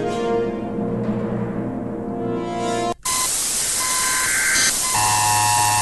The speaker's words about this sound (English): This is the emergency broadcast system. Stand by for further information.